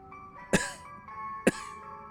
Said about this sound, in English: I walk past you, nervous cough.